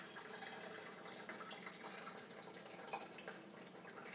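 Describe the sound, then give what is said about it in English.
Hot water pours steadily from a very full kettle, a continuous gurgling splash of liquid filling a container for several seconds, with no one speaking. “Do it more slowly. That'll do. It's taking nearly all the kettle anyway, so.”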